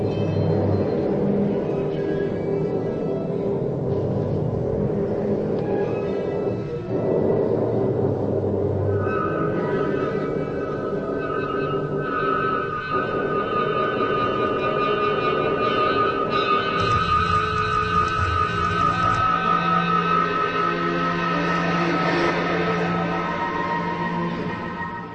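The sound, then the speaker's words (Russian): A dense, unbroken Moscow city drone with a deep traffic rumble throughout, a constant hum that does not stop at night, joined midway by sustained high wailing siren tones layered over the steady hum. “Очень разнообразный город, совершенно определенный гул постоянный, который ночью тоже не прекращается”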